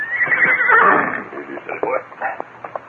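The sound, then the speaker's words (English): A horse whinnies loudly, a long shrill neigh that rises and then trails off into softer snorts and breathy sounds over about three seconds. “I'll mount Pedro's horse and ride down the slope.”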